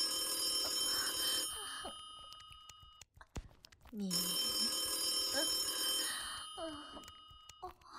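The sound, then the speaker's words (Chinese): A telephone bell rings insistently in two long, loud bursts separated by a brief pause, while a person's voice and breathy sounds come through underneath. “谁他妈这时候打电话过来？”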